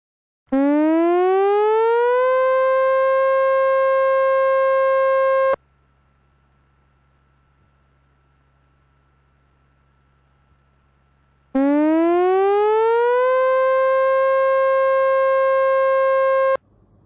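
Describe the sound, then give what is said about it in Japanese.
A tsunami warning siren sounds twice as lifeguards call for people to get out of the sea and evacuate to higher ground. Each blast slides up in pitch and then holds a loud, steady wail for about five seconds, separated by a pause filled with a low hum. “Lifeguards alert. Tsunami warning. Evacuate to a higher place immediately.”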